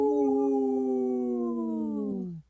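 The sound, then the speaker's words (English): Two people imitate a wolf howl together, a loud, sustained vocal tone that holds steady and then slowly sinks in pitch before cutting off after a couple of seconds. “I only heard two voices there. But hey, we are here with two howls.”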